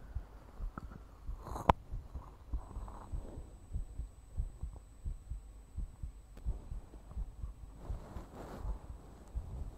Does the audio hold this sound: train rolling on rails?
no